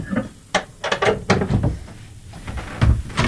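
A 14-year-old boy pulls his bedroom window shutters closed: a run of rattling clacks and scraping mechanical clatter, several sharp knocks over a few seconds, moderately loud with no voices.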